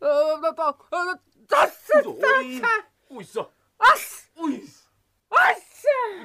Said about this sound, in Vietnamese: Ôi giời, chết thế này thì chết. Này này, hắt xì hơi cũng là biểu hiện của Covid đấy nhá.